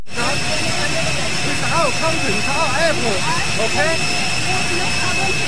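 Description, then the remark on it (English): A steady airplane engine roar at an airport in China fills the background with a constant high-pitched whine, while muffled voices talk over it throughout as a Chinese official pushes back the press pool. “You hear the plane in the background.”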